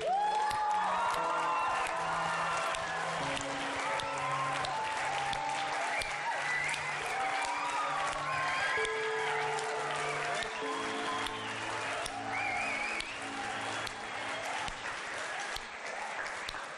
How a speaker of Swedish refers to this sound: Därför tycker jag, innan vi går in i Guds ord, att vi bara ger Gud och Jesus och Helige Ande en stor applåd.